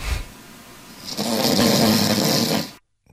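loud snoring

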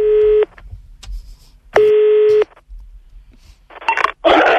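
telephone line tone

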